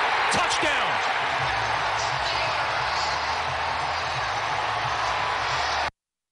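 stadium crowd cheering

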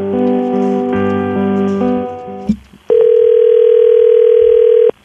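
telephone line ringing

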